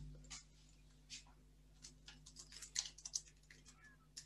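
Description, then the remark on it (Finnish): Soft, irregular keyboard clicks as someone types their own message into the message field of an online app, the taps coming in quick uneven bursts that grow slightly busier toward the end, quiet over a faint steady hum. “Ja sitten kirjoitetaan tänne viestikenttään oma viesti.”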